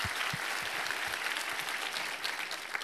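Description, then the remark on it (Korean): An audience at a special dawn prayer service applauds steadily to give thanks and glory to God, with many hands clapping in a dense, continuous wash of bright crackling claps that holds an even level throughout, with no voices standing out. “우리 하나님께 감사와 영광의 박수를 올려드리겠습니다.”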